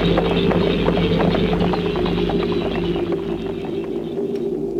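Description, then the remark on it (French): Horse hooves clip-clop in an uneven, steady stream of sharp knocks over a constant low hum, fairly close and loud, easing off slightly toward the end. “Il descend de cheval.”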